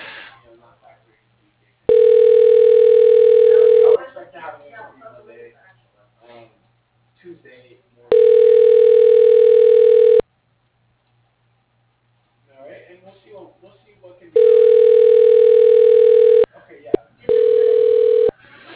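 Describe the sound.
A telephone rings on the line while a call is transferred to the person who handles the business's finances: a steady, mid-pitched ringback tone repeating in loud two-second bursts, with faint, muffled voices murmuring in the pauses between rings.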